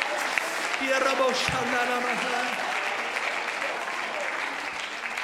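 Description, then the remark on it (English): A church audience claps hands in praise of the Lord, sustained, dense applause lasting several seconds, with scattered voices and cheers mixed in beneath the steady clapping. “Let's give the Lord a hand clap of praise in this place.”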